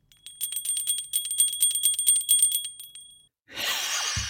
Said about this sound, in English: We need to get a bell or a certain sound to ring on the podcast. Oh, she's gone. I have a bell.